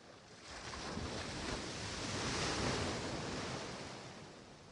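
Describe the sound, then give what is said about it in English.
A broad, hissing wash of surf as a wave swells and breaks onto a sandy shore, rising to a peak midway and slowly receding, with a steady rush of wind underneath and no voices. “You can hear the waves crashing themselves to the shore.”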